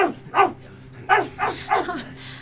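A dog barks five times in quick, uneven bursts, loud, scaring people away inside a crowded church, with a low steady hum in the background and no one talking.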